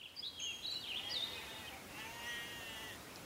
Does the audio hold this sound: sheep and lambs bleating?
yes